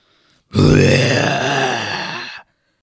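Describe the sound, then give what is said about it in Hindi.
A single loud, deep roar in a forest lasting about two seconds, rough and growling with a rich harmonic rumble, holding steady before cutting off abruptly, with no talking around it. “अचानक जोर की गरज से जंगल कांप उठा।”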